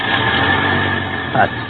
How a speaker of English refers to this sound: Oh, here's my bus.